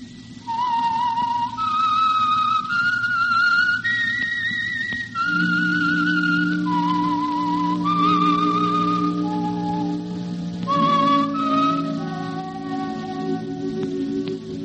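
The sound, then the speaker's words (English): A clear whistled melody, the theme of the Signal Oil radio program The Whistler, carries a slow, wandering theme, each note held and sliding to the next, over sustained orchestral accompaniment that swells partway through. No one speaks. “Whistle is your signal for the Signal Oil program, The Whistler.”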